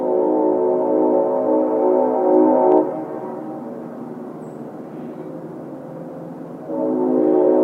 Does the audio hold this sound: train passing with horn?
yes